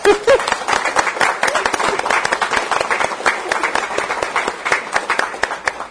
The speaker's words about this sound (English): Great. Let's applaud them.